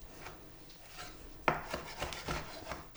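A knife finely chops dates on a cutting board for a salad, with a sharp tap followed by a run of quick, slightly scraping chops.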